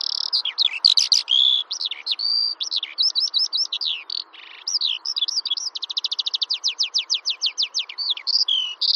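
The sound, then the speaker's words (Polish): A Eurasian skylark sings in flight over fields, a long unbroken stream of rapid, high trilling and warbling phrases with fast repeated chirps, clear, with no voices. “Skowronek polny śpiewa właśnie głównie w locie.”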